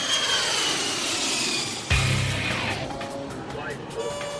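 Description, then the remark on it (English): A loud, steady jet aircraft engine roar fills the scene, broken near the middle by a sudden thump, after which a rising turbine whine climbs over the continuous rumble as the throttles are pushed to full. “Why isn't engine number two spooling up? I just pushed throttles to full.”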